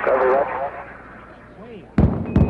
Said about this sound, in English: the viewers at Edwards Air Force Base have just heard the double sonic booms as Discovery passes over